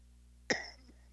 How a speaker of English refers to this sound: I was coughing.